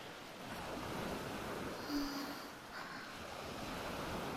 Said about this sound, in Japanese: これが波。